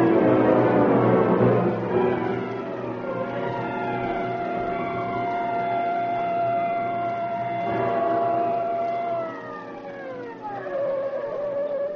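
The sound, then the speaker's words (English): A police car siren wails loud over a low engine rumble, its pitch rising and falling, then winding down as the car pulls to a stop at Pier 1. “Police car screamed to a stop at Pier 1.”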